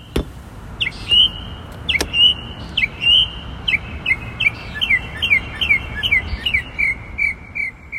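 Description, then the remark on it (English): A bird repeats sharp, chirping calls in a quick, steady series of a dozen or more, fairly close and clear above a constant low rumble of outdoor background noise. “Ellen recorded her slice of life in a Midas parking lot. She thinks this might be a parrot.”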